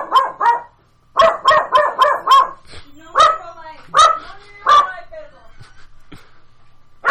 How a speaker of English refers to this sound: This is a very loud dog. Basil, why are you freaking out?